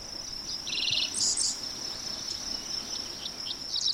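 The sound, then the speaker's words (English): Dickcissels and sparrows sing in short bursts, a quick buzzy trill and a few bright chirps, over a steady, high insect drone on a patch of prairie with bright flowers and bees in southwest Iowa, with no one talking. “Dick thistles and sparrows sing, and bees land on bright flowers on this patch of prairie.”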